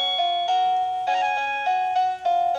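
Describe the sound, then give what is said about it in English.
An electronic doorbell chime plays a pop-song melody, a steady run of sustained, synthetic notes shifting pitch about every half second, loud and clear with no voices. “Who doesn't want a … doorbell? Plays Titanic.”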